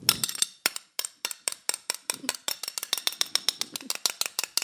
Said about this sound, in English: the loudest cutlery user I've ever fucking heard. He was scraping the plate to the point where I don't think there's a fucking pattern left on this plate.